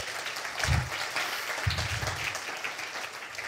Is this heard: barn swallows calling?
no